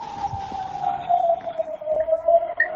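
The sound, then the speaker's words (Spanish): An air raid warning siren, which warns of an incoming missile, sounds alone in a steady, mid-pitched wail that drifts slightly lower over a few seconds, holding a continuous tone without pauses. “Otra es la sirena. No sé si las podéis escuchar.”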